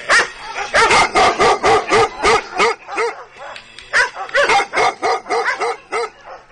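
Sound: dog barking loudly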